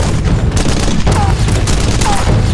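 Continuous heavy gunfire, a dense fusillade of overlapping loud shots and booms with no pauses, and a couple of brief high whistling tones cutting through the barrage.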